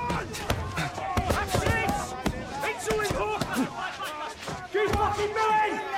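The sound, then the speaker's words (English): Boxing glove punches land in quick, irregular bursts of dull, punchy thuds as two young army recruits in military green vests and black boxing gloves trade blows in a gym, while fellow recruits around them shout and cheer loudly throughout. “They trade blows surrounded by fellow recruits.”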